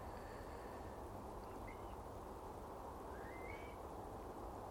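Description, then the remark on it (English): A steady, low drone of distant traffic on the M8 motorway, to the south and west, on a Sunday morning, fills the whole recording, a constant rumbling wash of sound with a few faint, brief bird chirps rising above it. “A distant drone you can hear probably from the right, from the south and west, believe it or not, is the motorway, the M8, which is quite a little bit away from here.”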